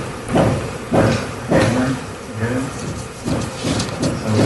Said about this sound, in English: There was this audio, and it came out because somebody in the other room was hammering while he was recording the show. And here's a little piece of what happened. Listen to the hammering.